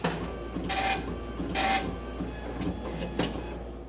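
A coin- and banknote-operated ticket machine prints a travel ticket: a steady mechanical whir broken by several sharp, bright bursts of printer noise at uneven intervals, with no voices.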